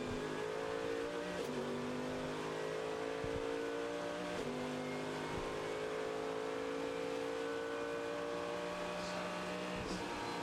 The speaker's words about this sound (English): Sound of race cars at night is something very special.